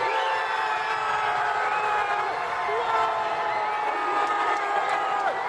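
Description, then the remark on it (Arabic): A large crowd of Moroccan football fans in the fan zone at Prince Moulay El Hassan Stadium in Rabat cheers and celebrates loudly and continuously after Morocco beat the Netherlands on penalties, with dense overlapping shouts, whoops and voices forming a steady roar throughout. “بعد ضربات الجزاء والأشواط الإضافية وتسعين دقيقة من الوقت القانوني للمباراة، أطلقت الجماهير في منطقة المشجعين في ملعب الأمير مولاي الحسن في العاصمة الرباط العنان لأفراحها بعد انتصار أسود الأطلس على الطواحين الهولندية وتأهل المنتخب المغربي إلى دور ثمن”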